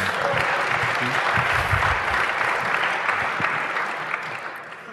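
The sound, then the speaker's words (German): An audience applauds steadily for about five seconds, a dense wash of clapping that holds strong before tapering slightly toward the end, with faint voices mixed in underneath. “Jetzt ist Zeit für den Applaus.”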